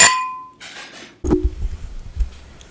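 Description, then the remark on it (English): A bright glass clink rings out and fades as glasses meet in a toast, followed by a duller knock and quiet rustling, with no voices. “This is the Midwest Happy Hour. Cheers!”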